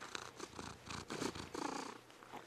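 A cat purrs up close in a steady, rumbling rhythm, each breath cycle swelling and fading in soft pulses with no voices present.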